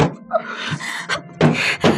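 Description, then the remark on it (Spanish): Heavy blows pound against a door, several loud thuds landing in an uneven rhythm, with ragged breathing in between. “¿Por qué no viene alguien al escuchar estos golpes en la puerta?”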